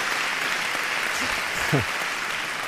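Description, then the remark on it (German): A live audience gives real applause with steady, dense clapping that stays at an even level throughout, and a single short voiced call rises briefly above it near the end. “Und das ist ein echter Applaus.”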